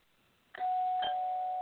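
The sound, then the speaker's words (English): A doorbell rings after a brief quiet moment: a sharp strike followed by a second one, leaving a steady, sustained mid-pitched tone that rings on loudly until the end, with no voices. “I got to answer the door.”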